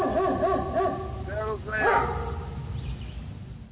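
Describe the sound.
Several dogs bark and yelp in a short, overlapping flurry that peaks midway, then fades into a low rumble of background noise and indistinct voices.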